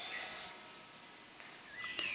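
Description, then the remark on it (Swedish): Faint birdsong in Lundagård, a park in Lund: a few thin, high chirps early on and again near the end, over a soft background hush with no one talking. “Klockorna i Lunds domkyrka och fåglarna i Lundagård hörde vi i bakgrunden”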